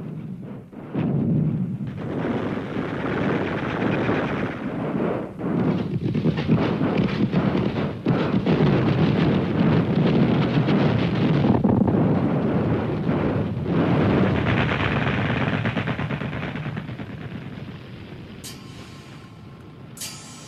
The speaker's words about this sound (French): Mais cette fois, les canons sont irlandais. C'est la toute nouvelle armée de l'État libre qui assiège, puis écrase les rebelles.